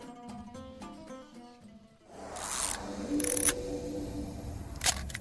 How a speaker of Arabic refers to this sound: العكاسة صوت العكاسة هذيك الكاميرا الطويلة تذكرونها، الحين ما فيه بالتليفون الحين.